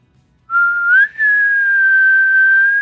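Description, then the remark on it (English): A person imitates a faraway elk bugle with a loud, thin whistle: a rising note, a brief break, then one long, steady high tone held to the end, with no talking. “zap him with your faraway elk bugle sound.”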